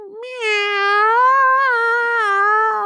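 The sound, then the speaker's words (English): A person imitates a cat with one long, drawn-out meow, fairly loud, rising slightly and wavering before tapering off, with no other voices. “Here's a cat sound I make.”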